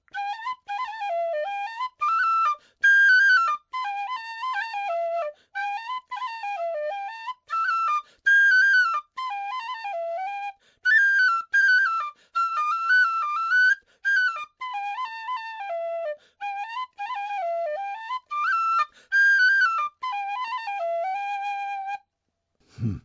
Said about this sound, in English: And the very first tune he taught me was this one, and I just happened to have a tin whistle handy.